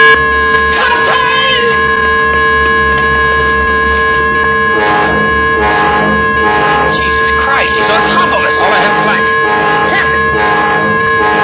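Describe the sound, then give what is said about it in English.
A ship's danger signal horn, sounded on the captain's order as a radar contact closes within 1,000 yards and the ship turns right full rudder, all ahead full, gives one long, steady, loud blast with a rich, buzzing harmonic tone, holding under urgent shouting voices for the whole stretch. “Sound the danger signal.”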